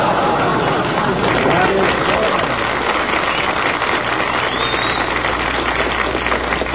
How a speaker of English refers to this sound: That's the corned beef crowd applauding us.